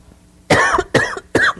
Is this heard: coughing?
yes